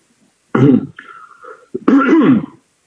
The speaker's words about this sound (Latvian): Klepiņš uznāca.